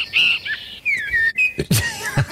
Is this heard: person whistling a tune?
yes